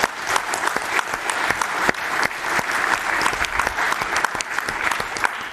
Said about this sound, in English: Yeah, I guess it's worth another round of applause.